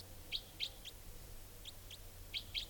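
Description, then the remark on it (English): A wild female bird gives sharp, high-pitched type 4 calls in short clusters of two or three notes with brief pauses between, over a low steady hum and no talking. “And this type 4 female is calling here.”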